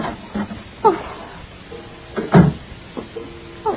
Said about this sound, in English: Come, be careful on the porch. Be careful on the step. Open the door